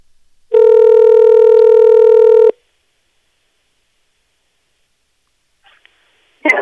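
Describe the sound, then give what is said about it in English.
A loud, steady electronic phone keypad tone sounds for about two seconds as a cell phone number is dialed, then cuts off into silence broken by a few faint clicks and a brief rustle. “Well, That says cell phone number. That's, I dialed that one.”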